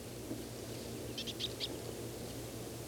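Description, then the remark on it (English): Soft, faint calls of a single foraging bird about 3 meters away: a brief cluster of about four short, high chirping notes in quick succession over a steady low rumble, with no talking. “The same bird foraging, making these soft calls.”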